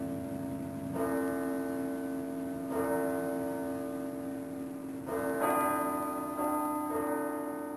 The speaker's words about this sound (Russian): Часы в зале пробили 12.